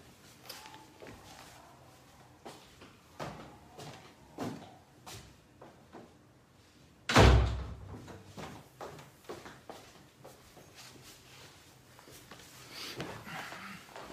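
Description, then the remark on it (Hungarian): A door is shut with one solid, loud thud, preceded by soft clicks, taps and shuffling movements; no one speaks. “Pillanat, csak becsukom az ajtót.”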